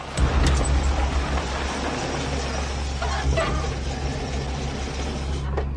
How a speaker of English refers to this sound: A police car draws up outside the building and parks next to another police car.